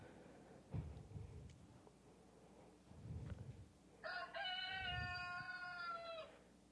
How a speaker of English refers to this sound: Immediately, the rooster crowed.